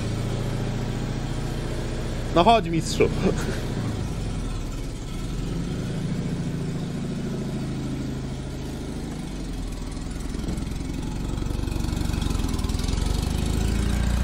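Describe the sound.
A small car engine is started and idles with a steady, lumpy low rumble throughout, briefly revving early on, then growing slightly louder near the end as the car is driven out. A man says a few words over it.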